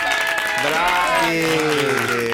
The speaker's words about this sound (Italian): Fatevi un applauso, Amis della Caffettera. Vai!